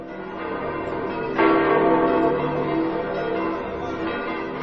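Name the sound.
church bells ringing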